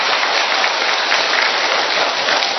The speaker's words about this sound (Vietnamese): Xin chào mừng tất cả những anh chị em đến đây, một tràng pháo tay thật lớn thưa anh chị em.